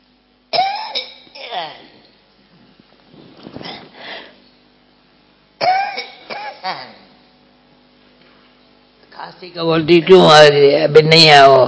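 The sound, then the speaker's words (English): Loud bouts of coughing and throat clearing come in three separate bursts with short quiet gaps between them, followed by a person starting to speak at the end. “I'm telling the cough, why do you come now?”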